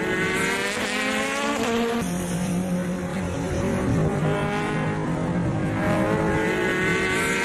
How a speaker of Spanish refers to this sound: Así suena el coche de Alonso en Daytona, que ahora mismo está dando vueltas en el entrenamiento.